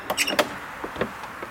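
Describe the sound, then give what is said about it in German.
A woman opens the front door of an old half-timbered house with a quick cluster of clicks and a latch rattle, followed by a few softer scrapes and creaks as it swings, moderately quiet. “Wir warten, dann öffnet eine Frau die Tür.”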